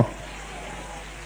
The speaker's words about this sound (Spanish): Si ese aplauso es para que está entre nosotros, fuerte el aplauso.